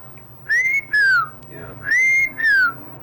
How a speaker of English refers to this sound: We whistle for horses.